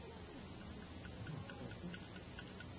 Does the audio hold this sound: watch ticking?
yes